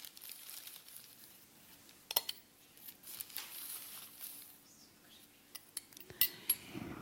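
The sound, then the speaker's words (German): A spoon scoops two tablespoons of charcoal powder into a glass of water: soft, gritty scraping and rustling broken by a few sharp metallic clinks, fairly quiet, with no one speaking. “Und wir machen 2 Esslöffel Holzkohle hinein.”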